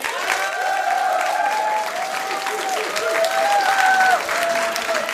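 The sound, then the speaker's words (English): An audience voting by applause claps steadily and loudly throughout, with drawn-out whoops and hoots rising above the applause in several overlapping waves. “A round of applause for yes, boning her.”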